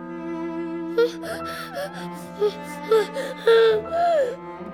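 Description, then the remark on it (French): Loud, repeated sniffling in short breathy bursts from the story character Coco, who wants to cry, mixed with a few whimpering, gasping sounds, over a steady sustained tonal background. “Il renifle très fort, alors la maîtresse lui fait un bisou.”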